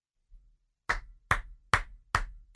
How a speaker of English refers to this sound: That's an unironic clap, by the way.